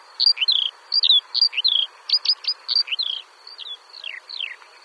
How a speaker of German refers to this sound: Die allerdings haben einen ganz flötenden Ruf und gar nicht so schmetzerisch und nachahmend wie die Lerche, in deren Gesang sich ja sowas wie 100 verschiedene andere Vogelarten wiederzufinden scheinen.